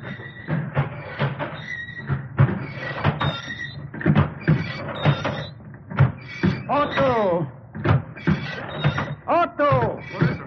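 An old printing press runs with steady, rhythmic clunking, each stroke joined by loud, descending creaks and squeals like a rusty gate.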